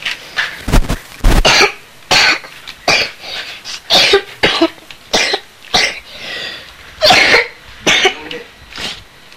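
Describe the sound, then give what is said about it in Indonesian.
A person coughs repeatedly in harsh bursts, roughly a dozen fits spread across the stretch with brief pauses between, some sounding like throat clearing. No talking. “Batuknya habis, kamu gak beli sembarangan, harus pakai resep dokter.”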